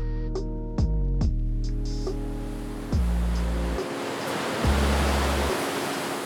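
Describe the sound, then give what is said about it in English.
Ocean waves wash ashore at a beach cove with a steady, broad roar, swelling every couple of seconds as new surges roll in. No one speaks. “After we finished exploring the rest of the cove, we made our way down to the beach and touched the water.”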